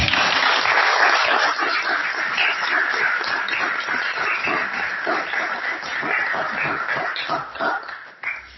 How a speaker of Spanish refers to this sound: Un aplauso para ustedes, ¿no?